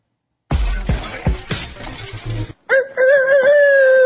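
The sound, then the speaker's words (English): A burst of loud clattering, crashing noise gives way to a person's voice imitating a rooster crow to bring in the Year of the Rooster, a sustained, wavering, high-pitched call lasting over a second. “That's not a bad rooster sound.”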